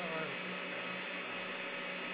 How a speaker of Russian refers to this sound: Очень громко, и у тебя очень сильно шумит на фоне вентилятора или что-то подобное.